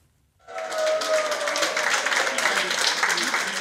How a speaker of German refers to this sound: So hört sich Jubel an. Grüner Jubel. Nach einer Kommunalwahl, bei der die Partei ihr historisch bestes Ergebnis in Nordrhein-Westfalen auf Landesebene erreicht hat.